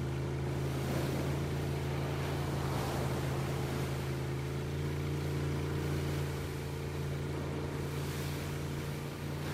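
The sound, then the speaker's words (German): A boat's engine drones steadily at low speed as the boat moves slowly along a harbor breakwater toward its tip, its deep hum constant throughout, with water washing and light wind noise around it. No voices. “Langsam fahren wir die Mole entlang bis zu deren Spitze.”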